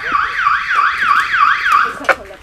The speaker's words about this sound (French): La sonnerie retentit à l'heure du repas. Petit moment de folie.